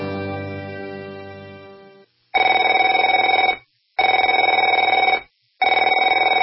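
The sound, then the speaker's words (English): A telephone rings in three loud, rattling bursts with short silent gaps between them, following a fading sustained tone. No one speaks. “Afraid to answer it?”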